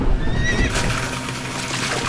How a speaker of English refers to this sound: Oh, fuck. What was that? Let me just turn this engine off. Oh my god, I've just ran over a horse!